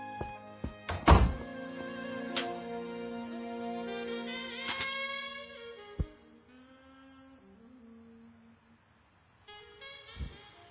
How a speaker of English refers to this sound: Unless my fingers cracking on the keys is too loud for you. Let's hear it. You just clack as loud as you want,